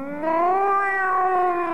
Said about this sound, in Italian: Poi un miagolio.